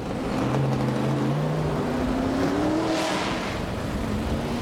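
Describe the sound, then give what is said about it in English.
The engine of the Axiom NASCAR racing truck roars loudly, its pitch climbing steadily as it revs higher over a constant rumbling mechanical noise, with no voices. “Rob Morgan, driver of the Axiom NASCAR racing truck, says success is found in meticulous planning.”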